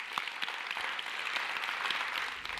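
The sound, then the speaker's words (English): A crowd applauds steadily to welcome online listeners, a dense wash of many hands clapping at an even level with scattered sharper claps standing out, no voices over it. “And also, let's go ahead and welcome our online listeners to the podcast. They're listening right now, so go ahead and give it up for them.”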